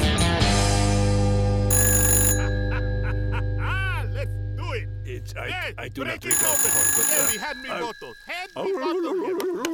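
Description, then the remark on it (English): A telephone bell rings in two short, bright bursts a few seconds apart, over a steady humming tone, with lively chattering voices in between and afterward. “Where's my phone now? Oh, there you are.”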